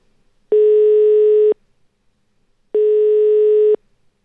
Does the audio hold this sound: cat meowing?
no